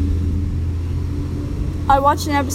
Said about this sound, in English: Everyone's emo until the white truck's gonna run you over. It's not even a Benz. It's not even cool if you get like, if you get hit by it. Stupid car being all loud.